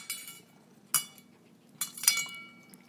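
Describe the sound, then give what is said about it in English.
Small pieces of dry dog food that a dog spat out clatter as they are put back into its dish, a few sharp clinks in uneven bursts, with a bright rattling cluster near the end and no voices. “For goodness sake, I'm putting it back in your dish.”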